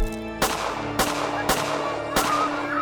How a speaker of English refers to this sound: And in the chaos, his fists on her flesh sounded like a flurry of gunshots.